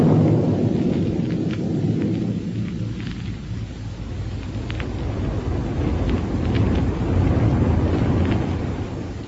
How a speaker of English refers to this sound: But let's first pick up Buck and Wilma aboard their rocket plane as it roars along on its way to Dr. Huer's laboratory in Niagara.